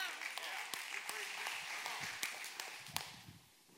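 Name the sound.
audience hand claps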